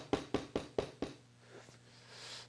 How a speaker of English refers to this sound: And then there's a knock on the door.